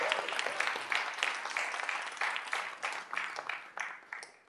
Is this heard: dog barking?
no